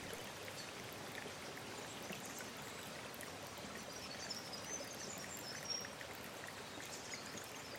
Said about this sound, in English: You're welcome to close your eyes. Or you can look up and watch the willow branches swaying while you listen to the sound of the river as it flows by.